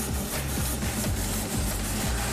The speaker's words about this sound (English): That sounds like a train. It sounds like a steam train. Oh, look at that. That is brilliant.